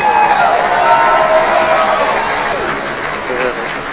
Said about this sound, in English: I got to give you a big round of applause